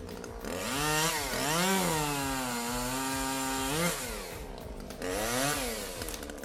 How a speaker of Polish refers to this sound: W sobotę rano około 8 obudziły mnie dźwięki piły. Wyjrzałem przez okno i okazało się, że najpiękniejsze drzewo, które widzę przez okno po przeciwnej stronie ulicy Żeromskiego, jest już w opłakanym stanie.